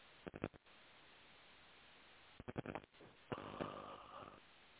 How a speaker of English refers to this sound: You hear me yawning and clearing. I'm just clearing more. If you need to yawn, go for it.